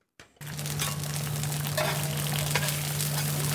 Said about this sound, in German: Hier an einer Bude am Straßenrand im Zentrum Shanghais brutzeln chinesische Eierpfannkuchen auf einer Heizplatte. Sie sind ein beliebter Snack für zwischendurch auf die Hand.